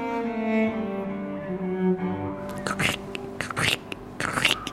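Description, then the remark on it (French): Boots crunch through snow in a handful of crisp, gritty steps at an uneven pace, following a steady, low tonal hum that fills the opening seconds. “Le crissement sous les bottes, magnifique.”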